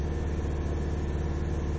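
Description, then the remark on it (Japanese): A train bound for Yudanaka idles before departure, its engine giving a steady, low rumbling drone that holds constant throughout. It is moderately loud, with no voices or other sounds. “まもなく発車いたします。”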